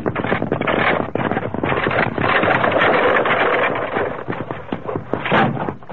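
A loud, sustained rumbling clatter of a runaway stagecoach rear wheel, rolled off the trail above, careening down a rocky ravine, packed with rapid knocks and thuds for several seconds, with no voices.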